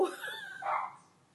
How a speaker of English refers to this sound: Can you hear my dog? Yes, I can.